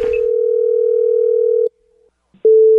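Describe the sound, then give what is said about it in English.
A telephone ringback tone on an outgoing call to a butcher shop: a loud, steady electronic tone holds for over a second, pauses briefly, then starts again. No one speaks. “So I am calling a butcher shop to find out what is the best way to do it.”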